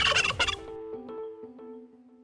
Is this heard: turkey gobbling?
yes